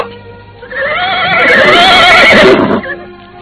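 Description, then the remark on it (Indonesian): A horse lets out one loud whinny lasting about two seconds as its riders dismount, its shrill, quavering cry rising and then trailing off, with only faint background noise before and after. “Sekarang kami terpaksa turun dari kuda, Ki Buyut.”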